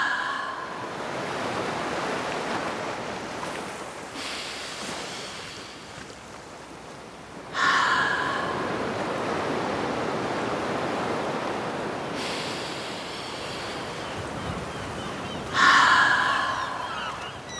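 Slow, audible ocean breaths in a breathing exercise: long whooshing inhales and exhales, air let out through an open mouth, rising and falling like surf in steady cycles of about four seconds, three breaths, with no talking.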